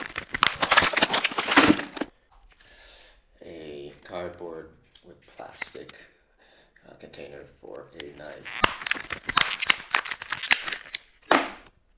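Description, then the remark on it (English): Cardboard and plastic knife packaging is handled in two bursts of loud crinkling, crackling and scraping, with a stretch of voice in between. “A cardboard with plastic container for a knife.”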